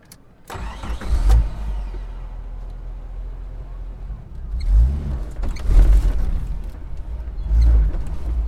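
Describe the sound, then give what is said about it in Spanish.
A private car's engine rumbles low and steady after a sharp start, then revs climb and swell in several surges as it pulls away in a quiet residential area, with no talking over it. “A escasos kilómetros, en una zona residencial poco transitada, se encuentra su coche particular.”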